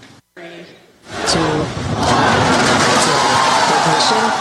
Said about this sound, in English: 27 rocket engines fired at once, sending the Falcon Heavy into space and the SpaceX crew into applause. Well, if you could hear all that cheering, it was an outstanding test flight of the Falcon Heavy.